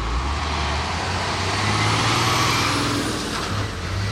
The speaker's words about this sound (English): This is insanity. There's like three major 18-wheeler trucks driving through a residential neighborhood.